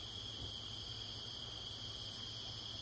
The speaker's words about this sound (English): Crickets. Crickets. In sunset.